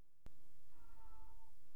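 cat meowing

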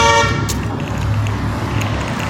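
car horn beeping

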